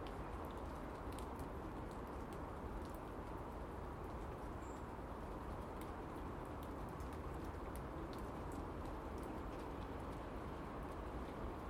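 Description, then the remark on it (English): Light rain falls steadily in a garden on a calm, overcast, damp morning, a soft, even hiss dotted with tiny drip ticks throughout, with one faint bird chirp midway and no voices. “Actually, the rain's quite pleasant on my face because it's very light, and it's...”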